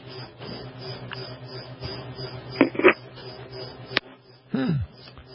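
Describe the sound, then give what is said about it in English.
Muffled rustling and fumbling of a guest's phone on a call-in line during a radio program, with a steady low hum, a couple of scraping bursts, a sharp click and a brief sliding whine. No one speaks. “I hear the phone rustling around, but I don't hear Lynn.”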